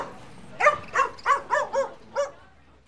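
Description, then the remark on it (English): A small dog barks six times in a quick, slightly uneven burst of high, yappy barks, clear with no one talking. “Have you got a dog? Yes, I have. Can I see it, please? Yes, of course. Here it is.”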